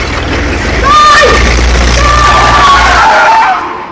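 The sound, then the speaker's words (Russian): A car engine rumbles loudly, then a long, high-pitched squeal of tires skidding as it brakes hard for a man who throws himself under it, with a man's brief shout over the noise. “Ты что под машину бросаешься?”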